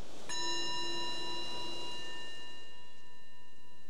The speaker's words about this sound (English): So the bell is the invitation to bring the awareness back to your surface, the surroundings, reflecting what we might have noticed during that exploration, something that's felt helpful.